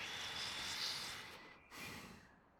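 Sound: person snoring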